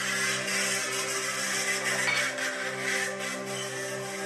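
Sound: ATV engine revving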